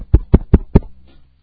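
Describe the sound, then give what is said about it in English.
Four firm knocks on a wooden door by kids going door to door raising money, evenly spaced, each a dull thud with a short ring, followed by a faint trailing rustle. “I go to the door. Open the door.”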